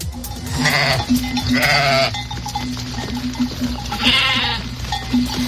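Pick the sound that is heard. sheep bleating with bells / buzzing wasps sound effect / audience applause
sheep bleating with bells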